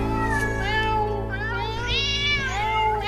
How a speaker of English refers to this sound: "Don't let him in till it's all lapped up," and somebody shouted, "meow."